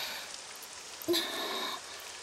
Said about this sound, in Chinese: 天哪，下雨下的可真是又大又突然，全身上下都淋湿了。